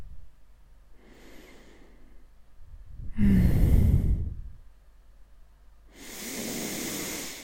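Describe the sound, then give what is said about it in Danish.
Slow, deep breathing with no talking: three airy, rushing breaths in and out, spaced a couple of seconds apart. The middle breath is the loudest and fullest, and the first is the softest. “Bare lige at tage et par vejrtrækninger, så jeg kan tage et par vejrtrækninger sammen med mig.”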